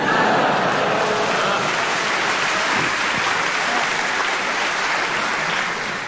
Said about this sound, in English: I think that was the Thames Valley Police Christmas party. And they're all clapping along and proving that we need more bobbies on the beat.